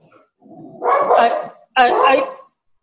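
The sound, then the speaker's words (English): A female pit bull mix foster dog lets out two drawn-out, loud barks in quick succession, with a brief low rumble leading into the first one. “What kind of dog is that? That's my, she's my terrorist foster dog.”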